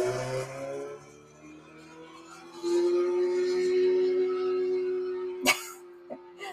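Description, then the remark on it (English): A neighbor's loud motorcycle engine drones steadily as he leaves, its pitch holding then swelling louder partway through, with a couple of sharp knocks near the end and no talking. “There goes the neighbor. The neighbor, yeah. He's a really loud motorcycle.”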